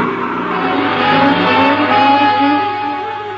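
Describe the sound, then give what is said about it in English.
A car engine revs hard as the vehicle accelerates through a traffic light, a loud, steady growl with rising tones that fills the whole few seconds, with no voices. “I ran the light, noting several figures in my rearview mirror”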